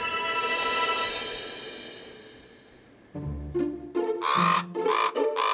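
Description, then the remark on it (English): A sustained tone fades out, then a raven circling over a bunkhouse gives a quick series of loud, harsh calls, about five in close succession, with no talking. “Raven is circling over the bunkhouse.”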